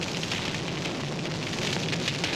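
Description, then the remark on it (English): A steady crackle of fire, dense with small pops and hisses over a constant roar, holding at the same level throughout with no voices. “And as you get very, very close, it's uncomfortable. You hear the crackling. You feel the intense heat on your face.”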